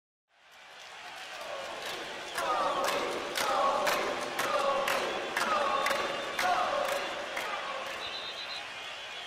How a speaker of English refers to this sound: The roar grew as the audience chanted and clapped thunderously as Colby stepped onto the floor of the basketball court at the Los Angeles Staples Center, April 13th, 2016.